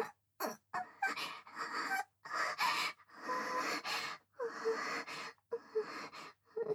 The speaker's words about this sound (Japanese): 君の吐息が首筋とか耳に当たって、くすぐったいだけだよ。